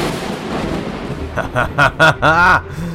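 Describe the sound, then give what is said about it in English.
A lightning blast effect as Storm blasts Shaw: a low rumbling roar gives way to four or five loud, sharp electric zaps in quick succession, ending in a longer buzzing, warbling crackle before fading. “Storm now tries her chances, blasting Shaw with a lightning blast.”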